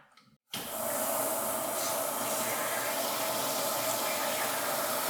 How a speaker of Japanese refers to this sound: で、これを、マットプレイの時は、あったかい熱いお湯で、伸ばしてから、うまく混ぜてから使用します。なのでちょっと早速シャワーをね、バーって出して、お湯で溶いていきます。ちょっと音が鳴りますよ。